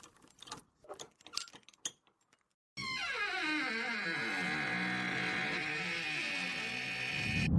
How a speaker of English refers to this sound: We're sucked in as air rushes into the vacuum.